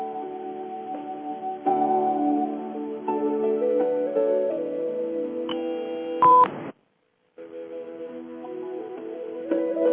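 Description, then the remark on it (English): Steady electronic phone-line tones hum and shift pitch for several seconds, then a sharp, loud burst of beeps cuts to a brief silence before the tones resume. No one speaks. “Alrighty, I heard some beeps, so I think we might have at least one caller on the line.”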